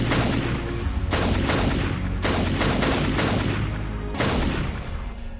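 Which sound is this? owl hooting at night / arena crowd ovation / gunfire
gunfire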